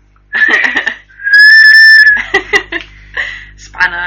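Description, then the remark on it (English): A survival whistle on a multi-tool knife gives one loud, shrill blast held for about a second, with short chirpy, laugh-like bursts just before and after it. “a whistle. I like this one, a survival whistle.”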